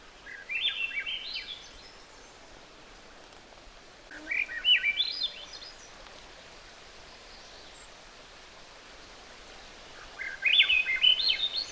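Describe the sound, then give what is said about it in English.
A hermit thrush sings three separate flute-like phrases, each opening with a clear preliminary note before a quick jumble of tumbling notes, ringing out over a soft hiss of background noise with pauses between. “And then there is a hermit thrush also, and it has a preliminary note. And then a series, a jumble of notes afterward, but it has the same flute-like quality.”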